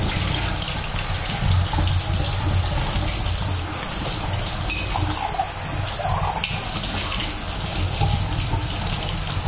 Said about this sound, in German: Ja, und dann werden wir mal die Tasse ausspülen.